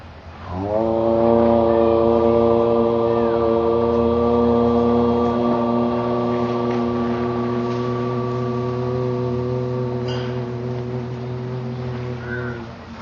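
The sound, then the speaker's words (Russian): A group of voices chants together the sacred syllable Om, a deep, steady, resonant drone held unbroken for about twelve seconds before easing slightly at the end. “Говорится, что когда Кришна родился, в Ананда Вриндавана Чампу, говорится, что первый его крик был подобен звуку Амхары, когда йоги произносят священный звук Ом.”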